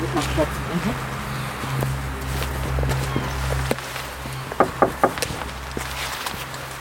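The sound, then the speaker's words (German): Slow, careful footsteps crunch along at an irregular pace while walking cautiously toward an old half-timbered house, growing a little sharper toward the end, over a constant low rumbling hum in the background. “Wir gehen vorsichtig in Richtung des Gebäudes.”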